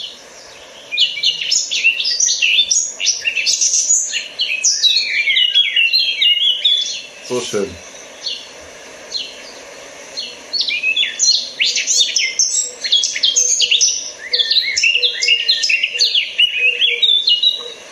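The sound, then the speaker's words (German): A songbird sings a rich, varied song of rapid fluting phrases and trills, sounding somewhere between a blackbird and a nightingale, repeated in bursts with short pauses, clear; a voice briefly says a few words midway. “Ja, es ist eigentlich fast zwischen Amsel und Nachtigall.”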